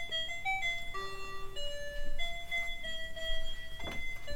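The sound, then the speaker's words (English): A timer alarm going off, playing a simple electronic melody of sustained, bright tones that step up and down in pitch, steady and moderately loud with no talking. “Let's be interrupted by the time one alarm going off.”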